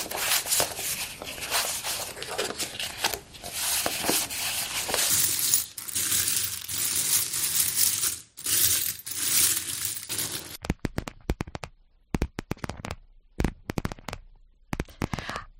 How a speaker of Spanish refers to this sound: Has escuchado a una persona primero barajando unas cartas, luego moviendo unas monedas y finalmente golpeando las uñas sobre el tapete.